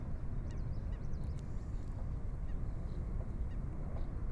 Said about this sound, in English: And the bird that's calling is the black-necked stilt, a really lovely bird. Oh, there it is.